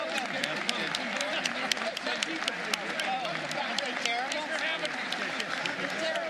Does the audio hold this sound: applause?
yes